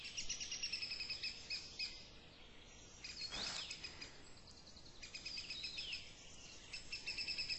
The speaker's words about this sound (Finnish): Pikku punavarpunen laulaa ja lehtokerttu laulaa. Eli kyllä tässä on jotain lintuja vielä laulelee.